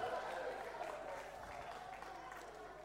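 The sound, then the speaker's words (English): A lively audience cheers on teams racing a one-minute timer to wrap objects, calling out in a steady, continuous din, with overlapping voices and clapping merging into one loud, sustained crowd roar. “Cheering on your team, please.”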